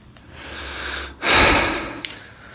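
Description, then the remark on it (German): A heavy, snorting breath forced through the nose: a softer airy exhale builds, then one loud rushing snort, with a couple of faint clicks after. “Schnaufen und Mausrollen geht gar nicht.”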